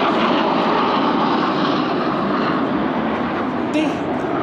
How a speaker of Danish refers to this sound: Den tror jeg, man kunne høre i mikrofonen. Der kom lige to F-16 fly flyvende ind over pladsen, der lige skulle ud og kigge, hvordan det så ud, tror jeg.